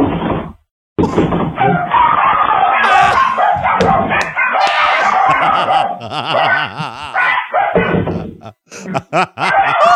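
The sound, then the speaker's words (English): Rescued chihuahuas bark and yap almost nonstop, loud, their high, overlapping yelps rising into wavering, whining howls midway before breaking into short final barks. “You get to pick the bark.”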